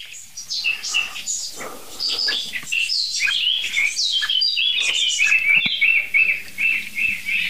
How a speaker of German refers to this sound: Es nervt im Augenblick wirklich nur die Amsel, so wirklich. Und die Meise mal ganz kurz zwischendurch.